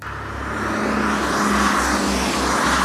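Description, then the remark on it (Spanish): Steady roar of city traffic with engines rumbling, a continuous dense wash of vehicles passing along a busy street in Madrid at 9 a.m. rush hour on a sunny July morning, no voices. “Son las 9 de la mañana y es hora punta en la capital.”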